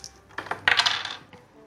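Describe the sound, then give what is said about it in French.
Two dice, rolled for the lowest possible number, clatter and tumble across a hard surface in a quick burst of sharp clicks, peaking in a dense rattle before a final tap settles them. Fairly loud, no voices. “Lance les dés, fais le chiffre le plus bas possible.”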